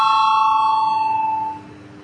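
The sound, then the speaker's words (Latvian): A parliament voting bell rings to call a vote on a proposal, as one steady, bright electric tone with ringing overtones, holding loudly for about a second and a half before cutting back to a faint fading hum. “Lūdzu zvanu, balsosim par pirmo deputāta Tavara iesniegto priekšlikumu.”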